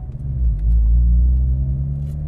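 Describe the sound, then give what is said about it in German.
A car engine roars loudly at full throttle on a race track just after braking through a bend, a deep, heavy rumble droning steadily with a slight rise in pitch, and no voices. “Danach wieder Vollgas. Die Beschleunigung presst mich in den Sitz.”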